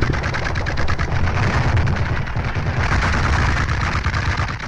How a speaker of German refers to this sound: Aus der Ferne hört man das Rattern und Knattern von Maschinengewehren. Dann einen lauten, undefinierbaren Knall.